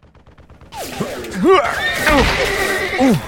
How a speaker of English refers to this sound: The horse reared up, screaming in agony as slugs pounded its body.